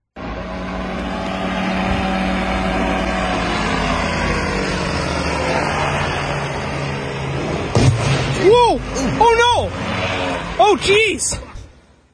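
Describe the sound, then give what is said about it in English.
A steady roar of wind and motor as a man paraglides along a river, then a sudden sharp crack as the paraglider strikes a power line, followed by several loud, rising shouts from the man. “This guy thought it would be a good idea to try paragliding along a river.”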